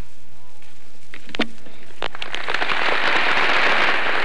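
Scattered claps quickly swell into loud, sustained applause and cheering, a rising ovation for President Truman after his brief speech marking the signing of the North Atlantic Pact in the Department of Labor Auditorium, Washington, building into a dense, continuous roar of clapping that holds to the end.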